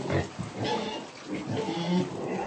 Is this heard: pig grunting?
yes